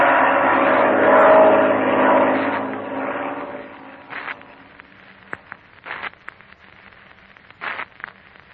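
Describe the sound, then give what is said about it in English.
A loud, broad engine roar from a black airplane fills the first few seconds, then fades away as if passing overhead, leaving quieter scattered knocks and rustles behind. “It sounds like a plane. You're right, Patsy. It is a plane.”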